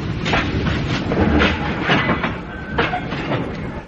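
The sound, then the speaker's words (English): A train rumbles steadily along the rails with rhythmic clickety-clack beats and a faint metallic squeal of wheels as it comes to a stop. It is loud, with no voices. “The train stopped.”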